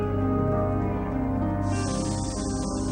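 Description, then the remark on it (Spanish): Automatic sprinklers spray water over vegetables in a grocery store in a steady, hissing rush over a low droning hum, the spray growing brighter and louder partway through. No voices are heard. “Rociadores automáticos mantienen húmedas las verduras.”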